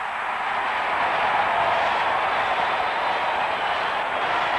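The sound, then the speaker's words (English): A baseball crowd in the Astrodome roars after a miracle double play: a dense, steady wash of cheering that stays loud and even throughout, with no single voice standing out. “Listen to the roar of the crowd.”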